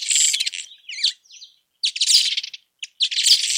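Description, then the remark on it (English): A village weaver sings a busy, buzzy chatter of rapid chirps and rattling notes in several bursts with short pauses, fairly loud, with no voices present. “That's a village weaver.”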